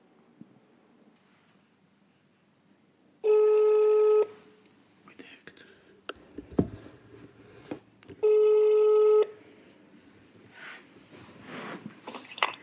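Two long ringback tones sound on a phone line as a call is placed, each about a second, separated by a pause filled with faint clicks and rustling, followed by quiet handling noise.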